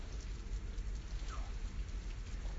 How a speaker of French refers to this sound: Non, mais pleut. Pas trop, il pleut. J'entends la pluie tout à l'heure. J'ai pas besoin de me connecter à un serveur qui se trouve à 200 km d'ici pour me dire qu'il pleut. À côté de moi, il pleut.